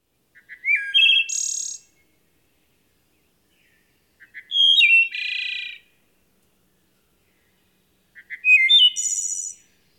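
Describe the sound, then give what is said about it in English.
A wood thrush sings three separate phrases, each a few soft introductory notes followed by a rich fluty warble and a high buzzy trill, spaced by pauses in otherwise quiet surroundings. “Wood thrush.”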